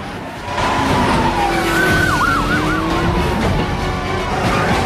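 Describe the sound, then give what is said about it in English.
A police siren wails and warbles as police chase a taxi, over the loud roar of speeding cars and screeching tires, a dense, chaotic traffic din with no talking. “The taxi drives up on pavements to avoid the traffic. The police start chasing.”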